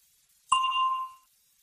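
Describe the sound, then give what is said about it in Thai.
A single bright bell ding strikes cleanly and rings out with a smooth, sustained tone that fades after about half a second, heard alone against silence. “ก่อนท่านจะตอบคำถามที่ว่านั้นให้ท่านรอฟังเสียงกระดิ่งดังขึ้นก่อน”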